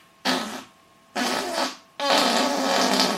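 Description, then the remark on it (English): Three loud, buzzy raspberry blasts made with the mouth to imitate farting, the first two short with pauses between, the last longer and sustained, with no talking. “But that's what it sounds like when you've got gas or when you fart a lot.”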